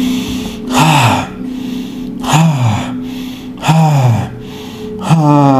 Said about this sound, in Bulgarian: Дишай. Дълбоко дишане, диапазон на дихателното движение, точно така. Дишане, дишане нагоре-надолу, дишане нагоре-надолу, дишане нагоре, вдишване надолу, издишване.